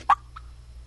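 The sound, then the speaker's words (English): A turkey gobbler in the background gives a sharp cluck followed by a softer second note in the morning, over a low, steady background rumble. “That's a gobbler clucking in the background.”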